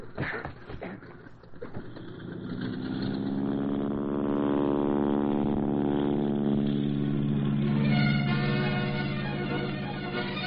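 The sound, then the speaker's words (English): The engine of a stolen plane sputters, then revs up with a climbing, buzzing pitch into a loud, steady droning roar for takeoff, heading northward over timberlands, with no voices heard. “The stolen plane roared northward over vast and valuable timberlands on which our nation depended for materials vital to the war effort.”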